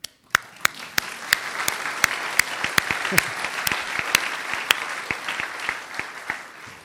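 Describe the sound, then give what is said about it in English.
A crowd claps steadily in sustained applause for the web team, many overlapping hand claps forming a dense, bright wash with sharper individual claps popping out, lasting several seconds without talking. “So, oh, big round of applause for the web people.”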